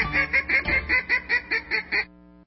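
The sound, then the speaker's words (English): A duck quacks in a quick, steady run of about nine loud, nasal calls, evenly spaced, with no one talking, then cuts off abruptly. “Hey, did I ever tell you the one about the duck who goes into a pharmacy to get some chapstick?”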